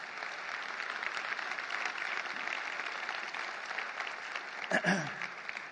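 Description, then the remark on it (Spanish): An audience applauds God steadily, a dense wash of clapping that holds at an even level throughout, with a brief louder burst near the end. “Un aplauso a Dios.”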